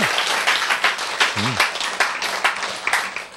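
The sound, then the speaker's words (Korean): A crowd applauds steadily, dense overlapping claps filling the space with bursts of louder clapping; a brief voice sounds briefly partway through. “박수. 아, 멋지지 않아?”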